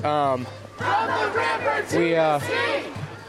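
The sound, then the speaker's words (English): A protest crowd chants loudly in the rain in rhythmic, overlapping shouted bursts, many voices rising and falling together in repeated phrases, with a steady low hum beneath them. The protesters are calling for a stop to United States empire at home and abroad. “As you can hear around me, there's a bunch of people out here who are demanding, who are seeing the connections between the empire here and the empire abroad of the United States, and calling for a stop to it everywhere.”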